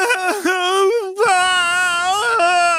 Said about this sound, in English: Ben plopped onto his padded bottom, sobbed even harder than before, and stretched both arms up.